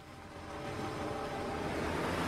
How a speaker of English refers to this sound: Nick climbs in, and the car moves off.